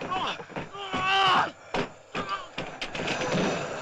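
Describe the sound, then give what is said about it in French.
A wooden door is being broken down, with several sharp, heavy thuds and cracking blows at an uneven pace, while voices shout loudly over the impacts. “Défonce la porte!”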